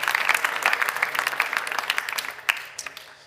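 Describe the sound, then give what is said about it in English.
A crowd applauds the worship team with dense, steady clapping that thins out toward the end, with a few scattered claps remaining as it fades. “Give the worship team a huge round of applause.”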